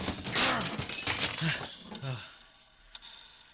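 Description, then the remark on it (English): A clock smashes and glass shatters in a loud, bright burst of tinkling fragments for about two seconds, mixed with shouting voices, then dies away, with one final sharp clink. “Oh my god, there's one over there. Don't. Die! Don't. Die, oh, clock!”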